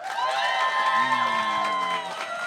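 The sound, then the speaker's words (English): An audience claps and cheers loudly and steadily for a couple of seconds, with excited whoops and shouting voices riding over dense, continuous applause, voting by applause for Kingsley Shacklebolt to win the November nuttiest bracket. “Clap your hands.”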